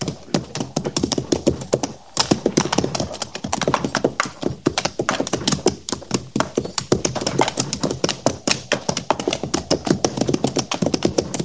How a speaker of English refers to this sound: There's a horse yonder, Captain, over by the stream. Yeah, I see it.